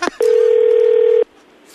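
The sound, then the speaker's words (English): A steady, loud electronic telephone tone holds for about a second after a brief click while a call is being transferred, then cuts off abruptly, leaving quiet line hiss. “Transferring your call”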